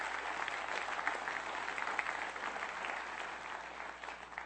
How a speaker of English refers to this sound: And you know what? I loved it when I heard you guys clap at the end of that Radiate video, because that lets me know you're excited about what God can and will do with people who just say, I'm scared, but I'm going to give you what I've got.